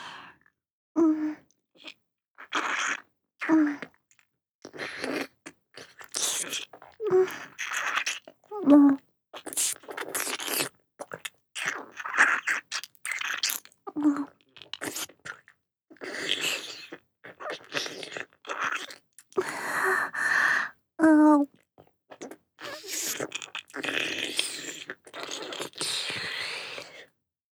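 Wet, sticky mouth sounds repeat in irregular bursts for the whole stretch, soft licks and smacks with occasional breathy gasps between them, alone with no talking.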